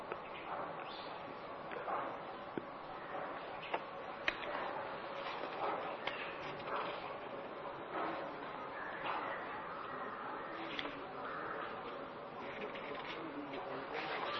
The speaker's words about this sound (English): Fifth question, do you enjoy the birds during the discourse? Do the birds enjoy you? Of course, I enjoy them. And they also enjoy me, but not the discourse. Because they are not so foolish.